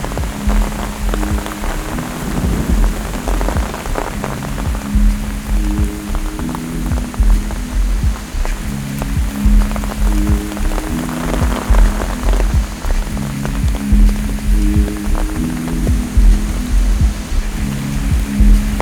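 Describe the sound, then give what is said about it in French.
Rain showers growing heavier and denser patter and hiss on a surface, continuous with scattered sharper drops, while low sustained tones drift underneath. No one speaks. “Je marche, traversé par des ondées de plus en plus pressantes ou denses.”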